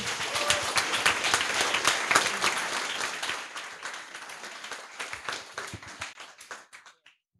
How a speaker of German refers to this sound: Und die präsentieren als erstes ihr Projekt. Viel Spaß. Applaus.